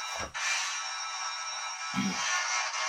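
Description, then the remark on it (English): A mobile phone ringtone plays continuously for a few seconds, bright and buzzy at a steady, fairly loud level, with two short low thumps beneath it and no one speaking. “This heralds back to our first podcast that was really bad with phones not being silenced.”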